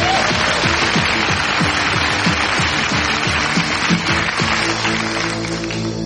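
An audience breaks into a round of applause, a dense, steady wash of clapping lasting several seconds, with some voices whooping and cheering underneath before it eases slightly at the end.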